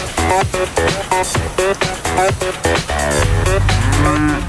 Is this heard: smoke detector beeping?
no